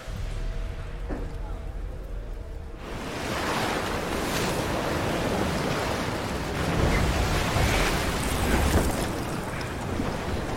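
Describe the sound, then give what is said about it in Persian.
Stormy sea waves crash with howling wind, starting quieter and then swelling into a loud, continuous roar with heavier surges near the end. “خدا کنه به خطر انداختن جونمون تو این طوفان سر هیچ و پوچ نباشه.”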